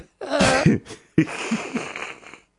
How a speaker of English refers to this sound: Wait, I'm yawning.